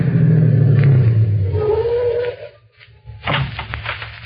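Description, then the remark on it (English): A car engine rumbles low and steady, then winds down as the vehicle slows to a stop, followed by a brief lull and some clunky rustling movement. “Stop the car.”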